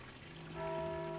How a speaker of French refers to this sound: Depuis l'église, un coup de cloche clair, distinct, seul, juste le temps de son propre écho.